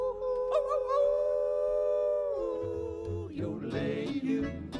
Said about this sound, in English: We're gonna ride and rope and wrangle a tune. We're gonna hoop and holler and howl at the moon. Ow, ow, ow.